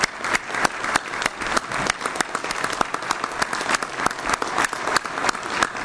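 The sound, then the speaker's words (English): A crowd applauds steadily for several seconds, a dense, even patter of many hands clapping at once with a few sharper individual claps standing out, and no voices over it. The applause congratulates a coach and his team of student athletes at a Texas A&M University board meeting. “We'd like to applaud you and congratulate you.”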